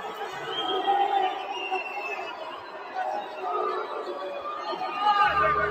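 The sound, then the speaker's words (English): A large crowd booing and jeering at a fight, a dense, steady wash of many voices that swells slightly near the end, with scattered chatter mixed through the roar. “People are booing.”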